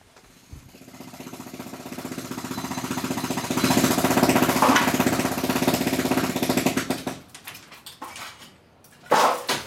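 A jackhammer and hammer drill pound steadily against concrete in rapid bursts, loud and close, with an engine rumbling underneath and clattering debris. The hammering stops abruptly near the end before a short final burst.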